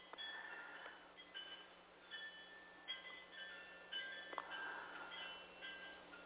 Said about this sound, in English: Those chimes sound so beautiful in the back. Oh, thank you. Yes, thank you. Very windy today.